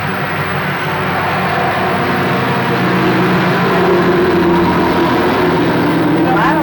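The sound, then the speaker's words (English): A steady, loud rumble of heavy truck traffic rolls past outside, with a deep engine drone that swells slightly midway and a faint higher whine toward the end. “Too much, and I didn't realize those trucks.”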